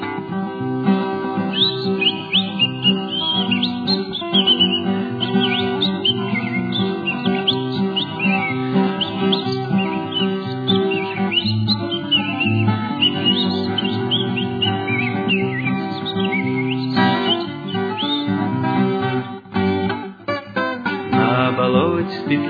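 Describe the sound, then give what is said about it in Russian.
Nightingale trilling song, with quick warbling phrases rising and falling almost nonstop over a steady, low, full backdrop. The trilling stays loud for the whole stretch, with no talking. “да присели у плетня слушать трели соловья.”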